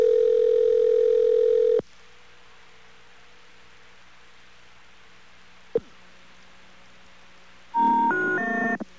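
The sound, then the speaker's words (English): A steady telephone tone cuts off into quiet line hiss and a click, then three rising electronic tones of the telephone error signal sound loudly at the end. No one speaks. “Oh, when I heard the three tones, I hung up right away.”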